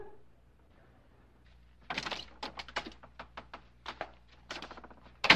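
A door being opened: a quick run of sharp clunks and clicks from a latch and hinges, starting after a quiet moment and ending with a louder knock-like thump.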